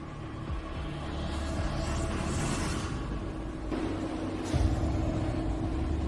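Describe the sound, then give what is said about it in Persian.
A boat engine drones with a steady low rumble and broad hiss as the boat arrives, growing slightly louder toward the end, with no voices. “آره فکر کنم همون قایق باشه.”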